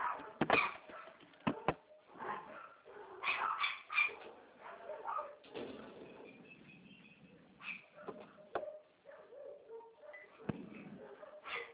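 Several dogs at a house bark and yip in short, overlapping bursts, heard over a phone line during a call, with sharp clicks and a busy, noisy background throughout.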